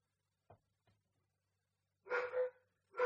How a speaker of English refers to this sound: So, fucking dogs.